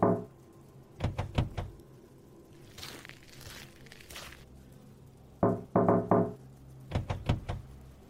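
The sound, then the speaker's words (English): Handles of locked car doors are pulled while someone tries to find a car to get running outside the city, giving sharp metallic clunks in quick bursts of three or four, with a softer rustling scrape between them. Fairly loud, no voices. “Does everybody lock their doors?”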